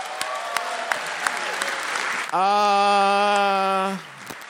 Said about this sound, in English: Right. Give us up and everybody give him a big hand round of applause.